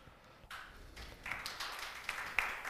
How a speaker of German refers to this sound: Der hier mäßig erscheinende Applaus ist nur dem technischen Equipment geschuldet.